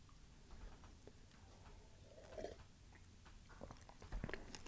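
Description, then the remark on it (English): Soft, wet chewing of a drink made of mashed strawberries sweetened with maple syrup, with irregular squishy bites and small clicks of the mouth, fairly quiet with no talking. “You'll notice you do have to chew, which is a fun part of the strawberry drink.”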